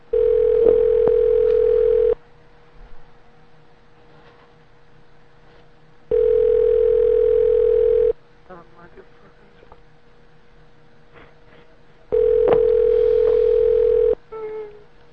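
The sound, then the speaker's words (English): A phone rings unanswered down the line: three long, steady, mid-pitched ring tones about two seconds each, spaced evenly with quiet gaps between them and faint murmuring in the pauses. “Answer.”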